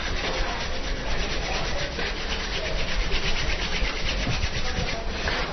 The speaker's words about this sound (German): Zur besseren Durchblutung, das sogenannte Sägen. Ja. Man reift die zwei Handflächen.